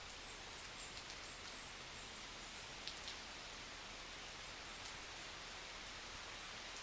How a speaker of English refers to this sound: Hey, the rain's picking up, though. Listen to that. Let's see if we can get some of this audio.